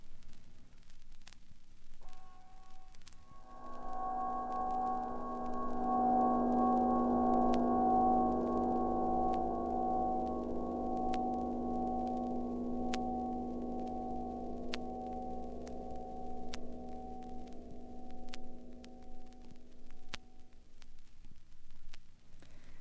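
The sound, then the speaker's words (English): A rich piano chord's decay from a piano scrape, recorded from the piano, pitched down an octave with ring modulation and reverb, swells in and hangs as a rich, humming drone that fades slowly over about twenty seconds amid faint crackle and clicks. “Here is the piano decay all alone, as recorded from the piano, lowered an octave, with a little ring modulation and reverb added.”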